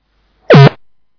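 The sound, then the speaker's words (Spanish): A single loud, harsh beep on a phone line lasts about a quarter second. Its buzzy tone swoops down in pitch, holds steady briefly, then cuts off into silence. “Te escuchamos perfectamente, pero como has oído ese pitido, si hablamos todos a la vez, aquí se enfadan los duendes.”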